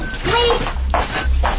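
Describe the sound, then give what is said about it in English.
A door opens or closes with a couple of soft knocking thuds over a low rumble, with muffled voices and background noise throughout. “Open the door”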